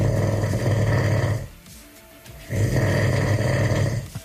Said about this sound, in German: also das ist ja wohl das außergewöhnlichste Schnarchen Brandenburgs.